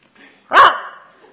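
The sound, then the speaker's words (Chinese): A single short, sharp, loud bark from a trained dog at home that has answered a phone call by stepping on the speakerphone button; one bark signals that the person asked for is at home. It stands alone against near silence with only a faint trailing tail afterward. “电话通了，狗起来踩免提”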